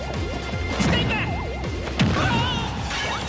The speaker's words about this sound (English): I dropped a bowling ball on you instead. Oh, walked into that.